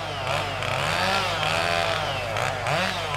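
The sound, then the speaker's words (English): A chainsaw roars loudly, its engine pitch rising and falling as it revs hard and bites into wood to cut down a tree, a continuous buzzing whine throughout. “Tommy revs up his chainsaw, which means one thing: that tree is coming down.”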